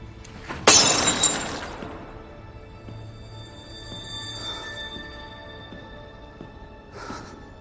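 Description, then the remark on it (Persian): A tea glass drops and shatters with a sharp, loud crash near the start, followed by scattered tinkling of fragments and a couple of faint clinks fading afterward. “لیوان چای ما انداختم.”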